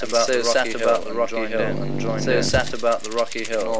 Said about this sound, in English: After obtaining permission from the Magajin Dodo to use his rock, we recorded three local men who volunteered to beat the rock and sing. In the background can be heard the chants and yells of the crowd of villagers who could not fit into the cave.